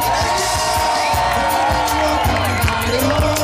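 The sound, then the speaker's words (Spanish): A loud, lively crowd cheers and whoops continuously, a dense wash of many voices with excited shouts rising above the steady roar throughout. “Ok, fuerte ruido, a ver los ruidos, esa gente está animada.”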